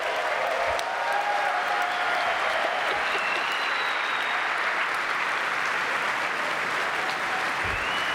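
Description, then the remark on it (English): Sustained applause from a large audience at a presentation introducing a new Xamarin Forms experience, the Xamarin Forms Previewer. It fills the whole stretch as a dense, steady wash of clapping at even volume, with no one speaking over it. “Oh, you can keep clapping.”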